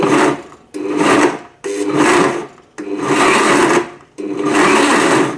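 A blender grinds red chilies, 250 grams in total, in five loud, rough whirring pulses, each about a second long and separated by brief pauses, with no talking.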